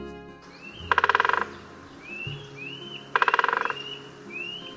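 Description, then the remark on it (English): Two short, rapid rolls of woodpecker drumming on wood, each a quick burst of loud taps lasting about half a second, with faint sweeping bird calls in between. “Both males and females drum to communicate with each other and mark out their territories.”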